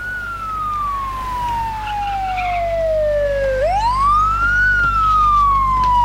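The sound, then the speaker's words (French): An ambulance siren wails loudly as the ambulance speeds off carrying a patient and traffic gives way, its pitch sliding slowly down, sweeping back up, then falling again over a steady low engine rumble, with no voices. “Il file dans un pari avec les sirènes. On leur laisse le passage.”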